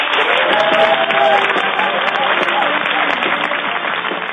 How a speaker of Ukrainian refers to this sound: Німці завжди зустрічають Віталія та Володимира Кличків під гучні аплодисменти та вітання.